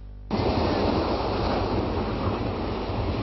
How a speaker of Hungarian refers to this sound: 100 km/h erősségű széllel érkezett a hideg front a Balatonhoz.